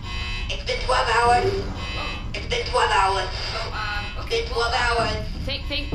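A harsh electronic twelve-hour alarm buzzer, marking that 12 hours have passed, sounds in three long, repeated bursts with short gaps between them, fairly loud over a steady low background hum.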